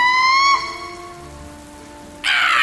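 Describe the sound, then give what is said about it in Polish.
Rain patters steadily on a surface beneath a high, squeaky tone that fades after the opening moments, then the downpour swells abruptly louder and hissier toward the end. “Między uderzeniami kropli deszczu usłyszał pisk.”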